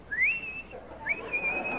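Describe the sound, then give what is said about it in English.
A person whistles an imitation of a tomtit call: two clear, high phrases, each sliding up and then holding a steady pitch, moderately loud with no talking. “And then the sweet sound of the tomtit.”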